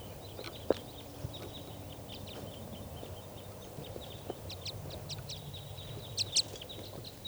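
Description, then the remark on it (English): A flock of wild birds in trees, including bright red males, gives scattered, high, brief chirps, some in quick clusters and a couple sharper calls near the end, over a soft low rumble, while someone tries to catch them. No one speaks. “So recording, the wild birds.”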